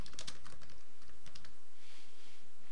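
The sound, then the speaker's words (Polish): Rapid computer keyboard typing as a check-in comment is entered, a quick run of clicky keystrokes that starts brisk and then thins out. Moderately quiet, with no voices. “Wpiszemy komentarz pierwszy Check-in.”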